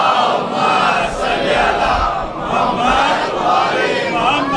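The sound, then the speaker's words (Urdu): A large audience at a majlis recites salawat together, many voices chanting loudly in unison as a steady, dense wall of sound with gently rising and falling phrases throughout. “سلوات پڑھیے تو پتا چلے کہ پڑھنا.”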